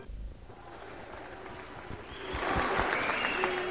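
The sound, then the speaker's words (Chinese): Audience applause at a crosstalk (xiangsheng) performance of "Wo Yao Lüyou" by Guo Degang and Yu Qian. It is a dense crackle of many hands clapping that holds steady and swells louder toward the end, with no voices over it. “谢谢，谢谢啊，谢谢大家给我一个人的掌声啊！”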